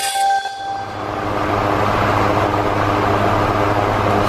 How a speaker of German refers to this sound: Klingt das nicht erfrischend? Der wunderbare Sound eines Ventilators. Wer so einen jetzt hat, der kann von Glück sagen, denn in etlichen Elektrogeschäften in Deutschland sind die Dinger ausverkauft.